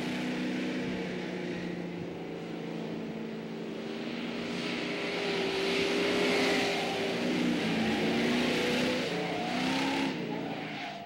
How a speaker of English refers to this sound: Definitely not the best car around the pylons. The car wants to step out a little, but really easy to throttle steer. Power steering works really nice. So very predictable car, but definitely wants to slide around.